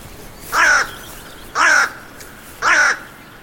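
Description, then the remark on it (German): A raven perched on the branch of a fallen tree beside a path caws three times at an even, unhurried pace, each harsh call loud, separated by brief pauses with faint background hiss. “Am Wegesrand sitzt ein Rabe auf dem Ast eines umgestürzten Baumes und sieht mich an.”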